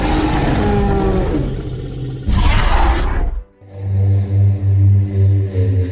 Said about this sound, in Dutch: Welke brul is de juiste? Hoe klonken dino's nou precies? En verschilde dat per dinosaurus? Of ja, brulden ze überhaupt wel? Of was het toch een ander geluid?